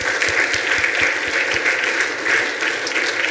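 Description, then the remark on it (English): Steady, dense clapping from a large audience applauding the men of the Rock, a loud continuous patter of many hands that holds at an even level for several seconds without any voices breaking through. “Let's give our guys one more round of applause.”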